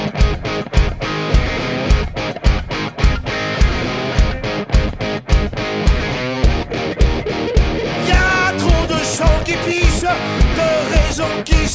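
A loud, dense French hard rock track from a band's new album, with heavily distorted electric guitars driven by a steady, pounding drum beat. Bright lead guitar lines rise above the mix in the latter half.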